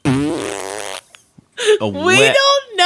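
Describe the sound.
A voice imitates a wet fart: a loud, buzzing, wobbling sputter lasting about a second, then a brief pause and a second stretch of rising and falling vocal blurts.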